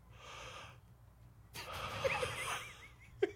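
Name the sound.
exaggerated breathing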